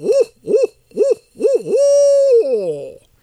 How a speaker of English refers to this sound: And to remind listeners that are familiar with the barred owl, it's the one with deep hoots that sounds like it's saying, "Who cooks for you? Who cooks for you all?" And here it is.